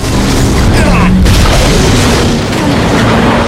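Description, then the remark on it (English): An armored van smashes through a toll gate with a loud, heavy crash and booming impact, followed by a dense, continuous roar of engine and rumbling noise as it drives away, loud throughout. “Barb crashes through the toll gate.”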